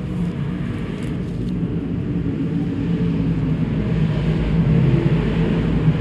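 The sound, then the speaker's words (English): Loud, steady engine roar from several big block modified race cars racing, a dense low rumble with droning harmonics that swells slightly toward the end, with no voices. “Just his second time in the big block modified running fourth as Paul Habeck is sitting in that fifth spot right now.”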